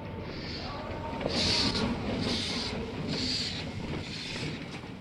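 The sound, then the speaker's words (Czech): A train rumbles steadily while slowing to a halt at a station, with high squealing hisses recurring about once a second over the low mechanical drone. No one speaks. “Nepočítal jsem s tím, že tu vlak bude stavět.”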